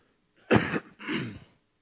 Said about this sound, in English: And excuse me if I cough into the microphone here on various occasions. I'll try to avoid it, but it's not going to be too easy.